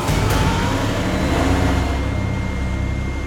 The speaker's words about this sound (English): They do wait. And sure enough, they hear the garbage truck. And the dumpster is loaded on and taken away.